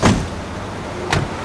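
Someone is helped out of a car on arriving at the Ministerio Público at the Palacio de Justicia de Los Altos: a sharp door clunk opens the moment, a low idling rumble continues, and a second brief thud follows about a second later.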